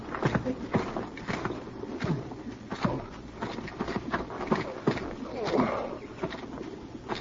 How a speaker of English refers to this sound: you go bring the horses up.